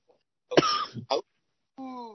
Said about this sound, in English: Sorry, you make me cough. I couldn't hold that one.